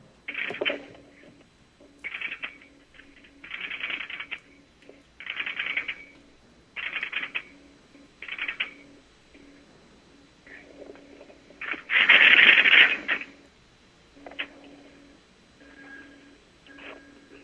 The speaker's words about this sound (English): that's going to be the relays of the marker that are actually switching the call through